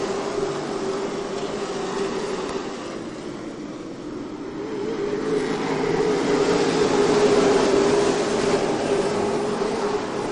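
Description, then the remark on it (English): A dense, continuous roar of 24 pro stock race car engines at the green flag of the Ron McGilvery 150, dipping slightly before swelling louder as the pack thunders down into turns one and two, side by side. No one speaks. “They thunder down into turn one and two, still side by side.”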